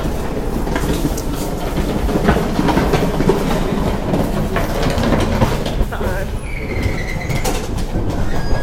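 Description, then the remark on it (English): A trash can is dragged over the ground in a steady, loud rumbling scrape lasting several seconds, with a short high squeal toward the end. “Oh, now we got a trash can being dragged across.”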